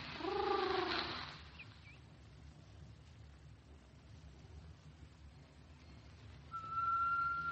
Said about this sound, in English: Hey, take off that tea kettle, will you? Sure thing. I don't know why I ever bought it. I don't approve of whistling tea kettles. They're so fresh.